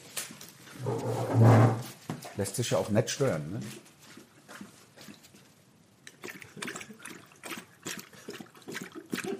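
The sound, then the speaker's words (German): Wet smacking and lapping of a female dog drinking water, loud for a couple of seconds then continuing more quietly in bursts while a person talks over it. “Wenn Sie sich wundern über dieses schmatzende Geräusch, ist die Hündin, die hinter uns ist.”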